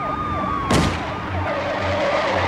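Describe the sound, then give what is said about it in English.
A single sharp shotgun blast, fired by a deputy at the rear tire of a suspected smugglers' truck during a chase, rings out over wailing sirens and a rumbling vehicle engine, with the chase noise continuing steadily afterward and no one speaking. “The deputy roars into the lead and levels his shotgun at the suspect's rear tire. When he's in position, he takes the shot.”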